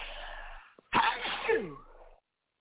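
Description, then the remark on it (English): A single loud sneeze: a breathy intake, a short pause, then a sharp explosive burst that trails off into a falling vocal tail before silence. “Bless me and bless you”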